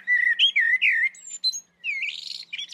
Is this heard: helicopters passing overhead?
no